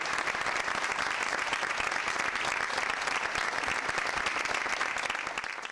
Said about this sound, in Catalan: Un minut de silenci i un fort aplaudiment de tots els assistents ha tancat la concentració.